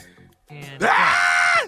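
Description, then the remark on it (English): A man's voice imitates the panicked groan of someone running from a big dog and about to be bitten: a short strained grunt, then a loud, rising, drawn-out yelp before it cuts off. “Yeah, what it sound like when you're running from a big dog about to get bitten?”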